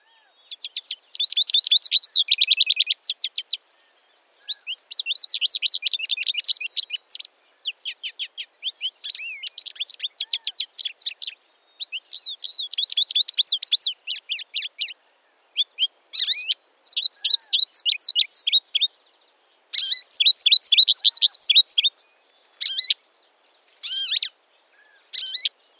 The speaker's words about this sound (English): That squeaky call comes from one of our most consistently entertaining birds, the American goldfinch. These little birds, somewhat dull appearing in the winter, will dazzle you in the spring and summer when they change into their mating plumage.